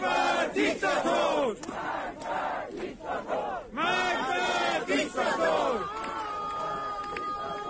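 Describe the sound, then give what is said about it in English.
A large crowd of mourners in Iran, mourning people killed by security forces, chants "Death to the Dictator" against Supreme Leader Ayatollah Ali Khamenei in loud, rhythmic unison, voices rising and falling in repeated shouted phrases that blend into a continuous roar. “Mourners chanted "Death to the Dictator," a reference to Iran's supreme leader Ayatollah Ali Khamenei.”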